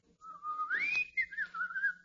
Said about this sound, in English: I can whistle it for you.